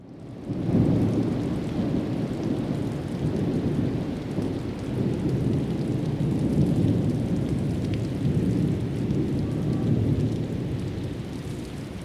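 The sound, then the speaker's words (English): Heavy rain pours steadily in a dense, roaring wash, with a deep rumble of thunder rolling underneath throughout. A recorded thunderstorm: a track from an album, by a field recordist. No voices. “This track is called ….”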